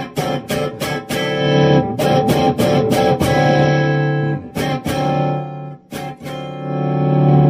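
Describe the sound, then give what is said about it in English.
Electric guitar with its volume knob rolled back, giving a smooth, mildly driven tone: a run of quick strummed chords, then longer ringing chords that sustain, with no talking. “Yeah, the tone goes, and then it's not the same tone that, whereas with these, it's, you can hear it's kind of pretty smooth.”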